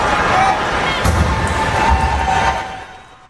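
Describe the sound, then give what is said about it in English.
A heavy bang on a trash can in a Houston Astros baseball dugout, struck to relay the catcher's signs to the batter, lands once, maybe followed by a fainter knock, nearly swallowed by a loud, steady crowd roar and babble of voices. “So what they would do is they were able to figure out, they were able to watch using video technology what the catcher was doing, then relay it to the batter by hitting a trash can in the dugout.”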